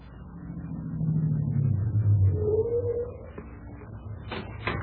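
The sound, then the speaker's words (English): A car engine rumbles steadily, swelling as it revs and pulls away, then settling into a lower idle drone. A couple of sharp clicks sound near the end. “Take the car around back to the garage, Dave.”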